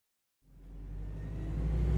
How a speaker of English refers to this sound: are on a bus going to school.